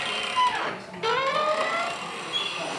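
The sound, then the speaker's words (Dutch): A building's door swings open with a long, squeaky hinge creak, sounding like the door of Villa Kakerbond, its whining tone sliding downward, breaking off, then rising again in a thinner drawn-out squeal. No one speaks. “De deur klinkt in ieder geval als die van Villa Kakerbond.”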